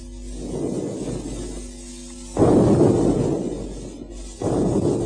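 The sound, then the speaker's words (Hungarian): Artillery shelling, going on all day, rumbles continuously, with two heavier booms landing a couple of seconds apart, each rolling out into a long, low, smeared roar. No voices are present. “Ez az ágyúzás egész nap.”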